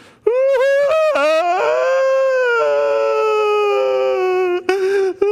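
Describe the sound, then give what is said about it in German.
A single voice imitates loud weeping, starting with a few choppy sobbing bursts, then a long, sustained wailing cry that wavers and trails off before a final short sob. “In jeder Familie, jeden am Eingang seines Zeltes, jede Familie, Vater, Mutter, Tante, Opa, sieben Kinder, Schwiegerkinder, alles, was so um das Zelt herum wohnt, sie stehen am Eingang des Zeltes und was machen sie? Sie weinen.”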